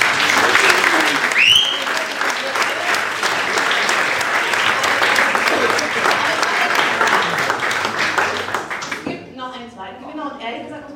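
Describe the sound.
A crowd applauds for the absent Olli Schulz and Jan Böhmermann with steady, dense clapping for about nine seconds, then the clapping fades as a person begins talking.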